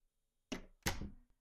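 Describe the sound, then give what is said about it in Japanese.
A door opening: a sharp latch clack followed moments later by a louder, heavier clunk that rings out briefly, with no voices. A woman opens the door and comes in, returning home. “扉を開けてふらふらと入り込んできた女に、 わーん と猫は一つ泣きました。”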